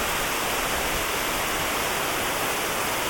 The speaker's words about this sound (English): Imagine that water coming off there into a brick culvert and away to join the other stream.